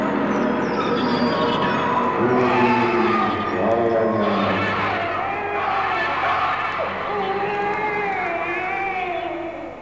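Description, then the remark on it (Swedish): Children scream and shriek together in an electronic recording, a dense, continuous mass of high, wavering voices, loud and sustained throughout, with rising and falling cries overlapping over a steady low rumble. “Det där barnskriken som är det som är absolut punkt.”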